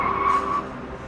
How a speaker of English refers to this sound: Don't give up. The next one's gonna stop. Another car approaches.